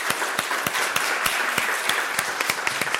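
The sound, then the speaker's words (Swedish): An audience applauds steadily to thank a discussion panel, a dense wash of many hands clapping with a few sharper, louder claps standing out, sustained at an even level with no voices. “Vi tackar panelen med en applåd.”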